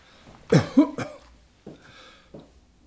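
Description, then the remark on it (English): A burst of dry, raspy coughs from a person with a dry throat: three quick, strong hacks, then two softer, throaty coughs spaced out after a short pause. No one speaks. “Yeah, just getting dry.”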